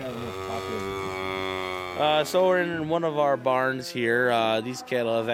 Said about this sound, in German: Wir sind hier in einer unserer Scheunen. Die Kühe können jederzeit raus auf die Weide. Sie sind alle trächtig, werden in einem Monat kalben.